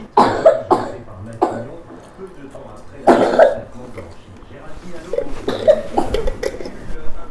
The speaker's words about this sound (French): Tu tousses encore.